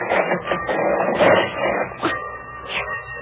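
A sliding door is dragged along its track: a continuous rumbling, scraping rattle lasting a few seconds, swelling and easing in loudness with a few knocking bumps, and no voices.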